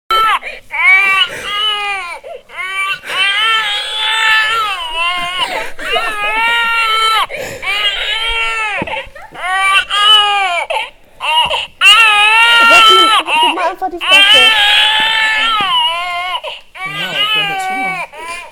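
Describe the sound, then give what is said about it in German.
A baby simulator doll, lent out by a girls' centre in Gelsenkirchen, cries loudly and continuously in repeated wailing bursts with brief pauses, its high, wavering cries filling the whole stretch with no talking. “Nach einer Weile konnten wir an dem Geschrei erkennen, was das Baby wollte.”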